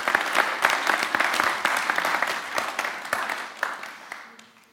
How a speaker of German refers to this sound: Und deswegen sagen wir euch herzlichen Glückwunsch und einfach einen Applaus für euch und einen Applaus auch für Gott.